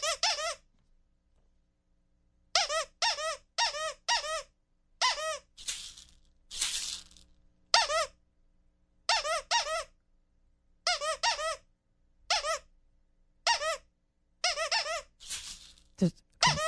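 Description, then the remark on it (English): A squeaky dog toy squeaks in short, high-pitched bursts, some quick and some drawn out, spaced in irregular groups as improvised coded signals for a four-word message, the squeaks marking dots, with a few broader rattling maraca shakes marking dashes mixed in and no talking. “A dot is a dog toy and a dash is a maraca.”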